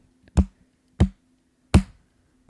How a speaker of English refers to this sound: I don't know if it's going to pick up my slow clap, but there it was. I mean, I heard it, so maybe we'll see.